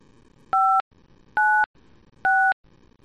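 Three telephone keypad tones are pressed one after another at an even pace, each a short, loud electronic beep separated by brief quiet gaps, entering an extension number.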